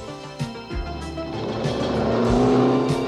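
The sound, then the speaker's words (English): A car engine roars loudly, revving hard as the vehicle races past with tires squealing, the noise building and staying intense throughout. “If I could turn into a car, this is where I'd blow off steam.”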